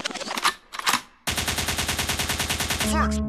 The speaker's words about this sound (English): the gunshot means forward.